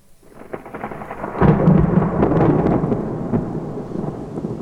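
A deep, rolling rumble of thunder from a large, dark, menacing cumulonimbus cloud, the first thunder of a storm on 28 July 1994, swells in after a quiet start and lingers, heavy and broad, with a steady wash of rain and scattered raindrop taps throughout.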